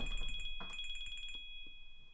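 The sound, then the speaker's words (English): An electronic phone ringtone trills in a fast, repeating pattern of high beeping tones, then cuts off after about a second and a half, leaving quiet background noise. “Excuse me, I should have turned off my phone.”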